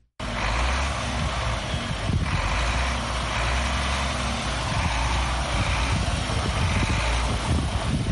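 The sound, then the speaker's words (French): A heavy goods truck engine, driven by Massata Cissé (known as Mama Africa), a woman trucker in Burkina Faso, rumbles steadily: a deep low idle purr with a throbbing pulse, holding loud and constant for several seconds with no voices. “Massata Cissé, dite Mama Africa, est à l'origine de ces ronronnements de ce véhicule poids lourd.”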